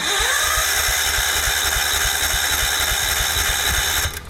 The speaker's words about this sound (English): Spring is here, and before you know it, the grass will be growing, and it'll be time to start that old mower up again.